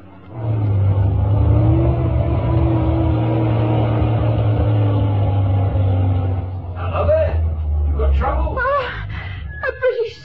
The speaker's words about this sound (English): No, wait. It's a British army lorry. It could have been captured.